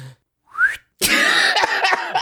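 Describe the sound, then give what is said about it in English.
A person whistles a short rising note, then a louder, breathy and wavering stretch of whistling follows, with no talking. “You gotta be able to whistle.”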